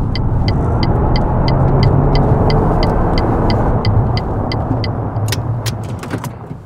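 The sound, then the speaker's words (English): A car drives with a steady engine and road rumble inside the cabin while a turn signal ticks rapidly, then a few clunks as the noise eases and the vehicle slows to pull over. “I'm sitting down in the car while I'm driving.”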